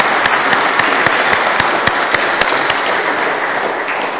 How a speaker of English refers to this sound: Thank you. Give yourself a hand. Come on. Clap.